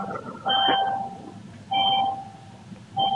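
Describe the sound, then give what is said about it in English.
A ding sounds three times at a steady, unhurried pace, each a clear mid-pitched electronic tone that lingers briefly before fading, over a faint background hum with no one talking. “I'm in competition with the ding.”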